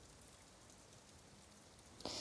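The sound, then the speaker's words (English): Steady rain falls in a continuous, even hiss with dense patter, no voices present; a brief sharper splash-like burst rises near the end. “So I think I like the sound of rain as I touch myself, And this is a really lovely feeling.”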